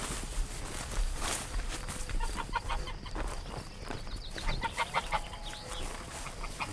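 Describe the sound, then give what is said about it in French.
A gander (male goose) gives a run of short, harsh honking calls, repeated in quick bursts over shuffling footsteps and rustling farmyard noise. “On a un jar et une oie qui est en train de couver, qui est normalement.”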